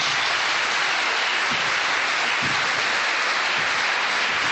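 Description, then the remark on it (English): A large audience in Glasgow applauds steadily, a dense, sustained wash of many hands clapping at once at an even, fairly loud level, with no voices, welcoming Professor Tom Devine before his lecture. “almost everyone has now arrived, so what we have is a thunderous round of applause and welcome, and then it's over to Professor Tom Devine for the lecture”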